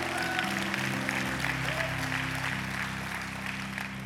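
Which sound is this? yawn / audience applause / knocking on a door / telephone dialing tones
audience applause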